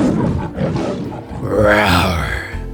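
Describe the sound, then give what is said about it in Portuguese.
A lion roars loudly, starting as a rough, rumbling growl and swelling into a long, harmonic bellow that holds strong before tapering off, with no voices present. “Vambora para leão? Solta o rugido.”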